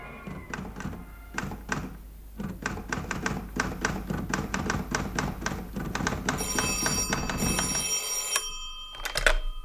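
An old-style telephone bell rings loudly and insistently, its rapid metallic strikes running for several seconds before stopping, followed by a brief clatter as the receiver is lifted.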